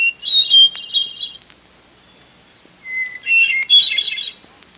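A hermit thrush sings two ethereal, flute-like phrases in the Boundary Waters area, each opening on a long clear note that breaks into a shimmering, rising flourish, with a pause between them. Clear and alone.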